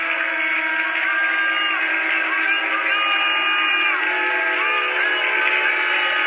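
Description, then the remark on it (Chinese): A church audience shouts and cheers together in praise of the Lord in a steady, loud roar, many voices whooping and calling out at once with rising and falling pitches, sustained for several seconds without a break. “Let's give the Lord a shout.”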